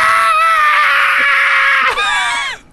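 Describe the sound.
A voice imitates a girl's wild screaming: one long, loud, shrill wail held nearly two seconds, then a second rising shriek that cuts off abruptly.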